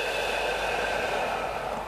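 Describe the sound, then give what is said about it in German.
A long, steady, breathy deep exhale during a breathing exercise, lasting about two seconds, fairly loud, with an even airy hiss throughout and no talking. “Und wieder aus.”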